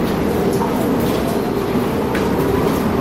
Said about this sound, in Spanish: Es el sonido del viento y de la lluvia. Lo grabábamos hace tan solo un momento en esta casa, en COPE Sevilla, y que están siendo la banda sonora de este jueves aquí en COPE Sevilla.